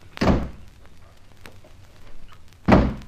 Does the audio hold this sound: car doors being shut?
yes